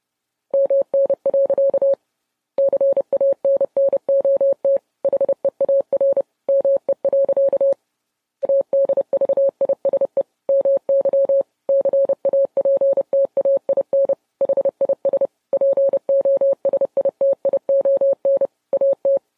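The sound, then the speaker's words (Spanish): A single steady-pitched Morse code tone keys on and off in rapid dots and dashes, loud, running nearly nonstop with only brief gaps and no voices. “Que el chisme se ha vuelto tan viral a nivel mundial que les tenemos en exclusiva este culebrón explicado en código Morse.”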